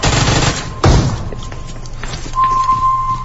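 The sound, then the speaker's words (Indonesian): Online mobile phone game gunfire sound effects, played fairly loudly at night on a bedroom balcony terrace: rattling shots with one heavy, booming burst, then a steady high-pitched tone rings over the continuing clatter. No talking. “Suara game kami memang cukup kencang saat itu.”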